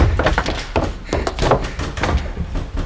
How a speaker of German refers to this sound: Sperrt die Türen hinter euch zu. Die sind so stabil, dass die Wachen Stunden brauchen, bis sie sie kaputtgeschlagen haben.